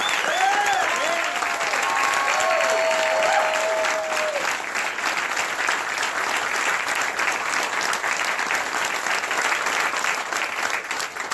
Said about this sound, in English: Thank you to all the veterans in the audience as well. Now, give him a round of applause.